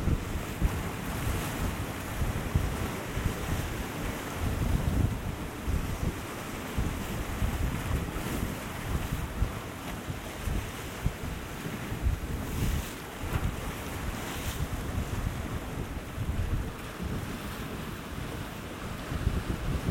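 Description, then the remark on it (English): Ocean waves roll in and break on the shore, a steady churning roar with surges of splashing surf, mixed with gusty wind buffeting the microphone and no voices. “Mesmerising to watch waves come in and break and splash and foam.”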